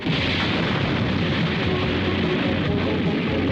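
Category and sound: sound effect, large explosion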